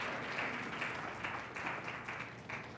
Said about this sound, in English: Give our volunteers a big hand clap.